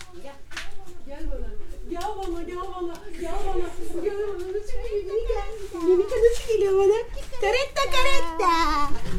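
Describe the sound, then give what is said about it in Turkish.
An 8-month-old baby babbles and whimpers in rising, wavering vocal sounds, with occasional fussy cries over faint background noise. “Biraz bebek sesi duysun dinleyiciler.”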